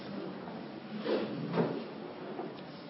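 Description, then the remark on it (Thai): A door is opened and then shut, giving two soft knocks about half a second apart over a quiet, rustling background, with no voices. “มาเยี่ยมเอาให้หมดมาเยี่ยมเปิดปิดประตูนี่ทำลายสมาธิ”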